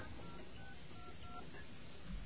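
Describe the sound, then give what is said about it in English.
A few faint, short phone keypad tones beep in quick succession as a voicemail password is entered over a muffled, narrow telephone line, with a low steady hiss underneath and no talking. “Please enter your password.”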